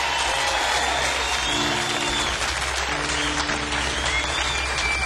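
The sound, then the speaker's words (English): An audience at a band introduction breaks into loud, sustained applause for a drummer, a dense wash of steady clapping that fills the whole five seconds, with some faint cheering and a low tonal hum underneath. “Please let's hear it for Mr. Universe himself, … on the drums.”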